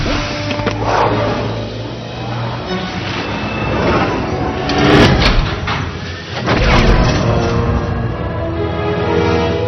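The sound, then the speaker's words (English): A magic elevator whooshes off with a steady low mechanical rumble and broad rushing noise, swelling in two louder surges midway, with no voices. “This elevator can go sideways, long ways, slant ways, and any other ways you can think of. You just press any button, and whoosh, you're off!”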